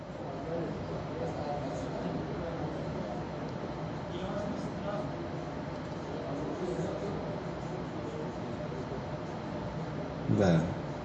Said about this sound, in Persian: این در ضمن کولره یا بخاریه که الان داره سرد میکنه؟